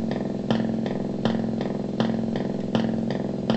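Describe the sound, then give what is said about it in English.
An imitation of a Harley Davidson motorcycle idling: a low droning hum broken by uneven, loping thumps in a steady lopsided rhythm, moderately loud, with no one talking. “So cool, you can make your little Harley Davidson sound with it, if you like.”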